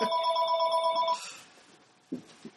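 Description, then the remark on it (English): A telephone rings with a steady electronic warble for about a second, fairly loud, then cuts off, followed by a couple of faint low thumps. “Oops. That's my mother on the phone.”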